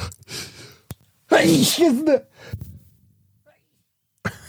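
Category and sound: human body sound, sneeze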